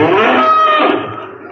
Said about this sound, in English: Oh, just poking around the cows.